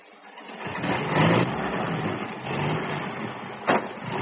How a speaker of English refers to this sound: Hear that, Oglethorpe? That'll be Fred Flint and Foxy Shrump taking one of them 10-ton trucks. You'll hear the other one go in a minute.